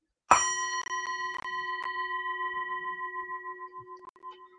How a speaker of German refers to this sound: Ich habe hier einen Gong und ich schlage vor, jetzt 15 Minuten zu meditieren.